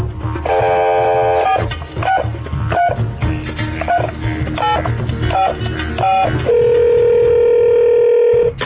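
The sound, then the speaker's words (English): A telephone being dialed to call an executive producer: a quick run of short, bright keypad tones in uneven rhythm, some rising and falling in pitch, ending in a steady held tone. Low rumbling background throughout, no speech. “Okay, I'm going to ask my executive producer on this one. Do you have her number?”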